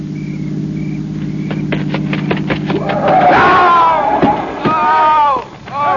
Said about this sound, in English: Listen. It It's a car. It's got to be the one I think it is.